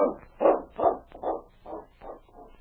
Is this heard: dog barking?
yes